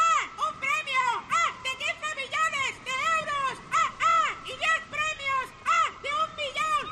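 Seagulls by the sea in summer call over and over in quick, overlapping squawks, loud, forming a busy chorus of harsh, rising-and-falling cries with no talking.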